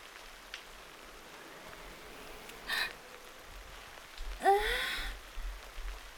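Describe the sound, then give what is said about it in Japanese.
Steady rain patters throughout, then a strong gust of wind roars through around the middle, a broad whooshing surge that swells loudly and fades, with low rumbling buffeting underneath, heard during a walk in the rain. “強い風、びっくりしましたね。雨の時の風ってなんだかひんやりとしていて、私にそっくり。”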